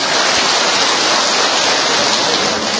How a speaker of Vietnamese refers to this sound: Đúng rồi, cho chàng pháo tay lên chị em.